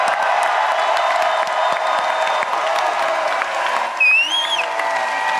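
Dense, steady applause from a crowd fills the whole stretch, with cheering mixed in and a shrill rising-and-falling whistle or whoop cutting through near the end.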